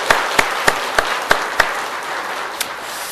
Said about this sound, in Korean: 우리 하나님께 영광의 박수를 한번 돌리겠습니다.